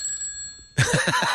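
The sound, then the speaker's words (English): An old telephone bell bursts into loud, rapid ringing after a moment of near silence, its clapper rattling in a fast, steady trill, as someone calls the phone's number to make it ring. “Boy, and a lot of vibration in those old phones.”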